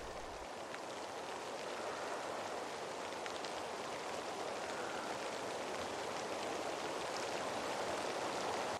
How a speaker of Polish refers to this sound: Kochane dzieciaczki, czy słyszycie ten wiatr i ten deszcz, który uderza o szyby?